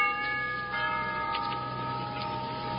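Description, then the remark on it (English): A doorbell rings with a sustained, bright chiming tone that holds steady for a few seconds, its ringing overtones layered together, with no voices over it. “Here, I'll ring the doorbell.”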